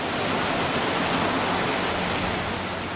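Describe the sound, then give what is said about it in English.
Seawater surges through a large pipe at a Poseidon Resources desalination plant site in Carlsbad on the California coast, about 100 million gallons a day, in a steady, dense, loud roar of rushing water, with no breaks or voices over the full stretch. “He says that soon, the seawater surging through this pipe, 100 million gallons of it a day, is going to be treated through a process called”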